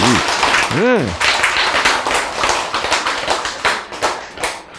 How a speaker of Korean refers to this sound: 요게 말이야, 아직도 저 나이에 죽었다가 살아나, 그거 좀 좋다고 박수 쳐.